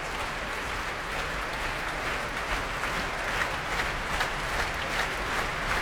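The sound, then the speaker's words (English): A Proms concert audience in the hall applauds steadily as the orchestra members retake their seats, a dense, even wash of clapping with flickers of sharper claps and a low rumble of stamping feet underneath, holding at a constant loud level throughout. “And a bit more stamping going on in the hall here.”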